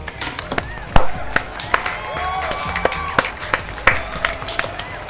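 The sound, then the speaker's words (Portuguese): Scattered applause from a small group, sharp irregular hand claps over about five seconds, with some voices and a rising whoop mixed in underneath. “Eu queria pedir palmas dos participantes aqui.”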